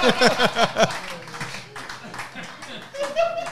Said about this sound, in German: Ein Applaus für Dr. Oktopus.